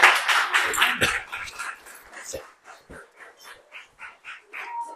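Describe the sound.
A small group claps, a dense burst of applause at first that thins into scattered, fading claps, with a few voices mixed in.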